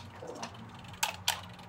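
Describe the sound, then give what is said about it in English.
A mechanical kitchen timer is twisted and set for about ten minutes while a pie crust browns in a 425-degree oven, giving a faint ratcheting tick followed by two sharp, bright clicks about a third of a second apart, over a steady low hum. “Timer on.”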